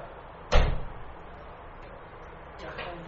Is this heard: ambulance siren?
no